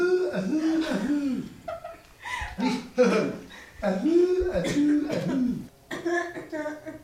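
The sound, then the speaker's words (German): A 12-year-old boy gives several light, short coughs in quick bursts on a doctor's request during an examination, mixed in with voiced sounds and talking. “Das Husten sind mal leicht.”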